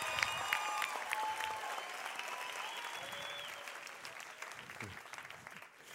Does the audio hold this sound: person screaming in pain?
no